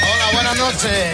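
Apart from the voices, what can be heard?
horse neighing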